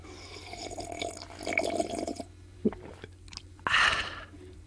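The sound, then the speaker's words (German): Soft slurping sips of coffee, followed by a few wet mouth clicks and a louder airy slurp near the end, with no talking. “Einen Schluck Kaffee zu mitnehmen.”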